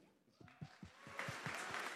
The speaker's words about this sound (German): Das heißt, ein großer Applaus für uns als Menschen.